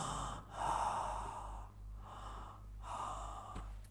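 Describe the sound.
Heavy, labored breathing of Rabbi Akiva lying ill with a cold wet cloth on his forehead: about four strained breaths rasping in and out in a slow, uneven rhythm. No one speaks, and a low hum sits underneath.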